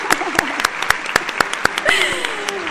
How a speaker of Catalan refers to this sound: Sí, podeu aplaudir si voleu, eh? Se ho han guanyat tots!